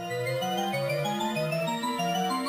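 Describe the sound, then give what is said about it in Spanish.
Endless staircase music built from Shepard tones: layered, octave-spaced notes step steadily upward about twice a second, creating the illusion of a pitch that keeps rising forever. Loud, sustained and without any voices. “Y la música de la escalera de Mario 64.”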